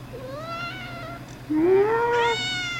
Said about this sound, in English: One more thing, come on. Give me a good one. Give me a nice big meow. Hey. Come on, give me a nice meow.